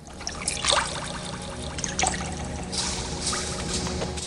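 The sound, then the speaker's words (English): A hand dips and stirs through liquid in a cauldron, producing soft splashes and trickling, dribbling water with a couple of sharper sloshes, against a steady low background hum. “Forrest puts his hand in the cauldron.”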